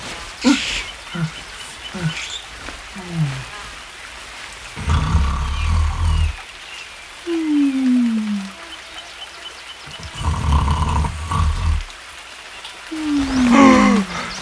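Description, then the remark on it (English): A man snores loudly, rumbling snores roaring out every few seconds, each a harsh rasping burst, with whistling tones sliding downward in pitch between breaths. No one speaks. “This is some devilish new form of torment! Snoring me to death!”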